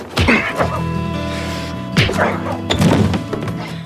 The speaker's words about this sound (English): That was Pacey punching Dawson and then Dawson punching Pacey back and Pacey falling down.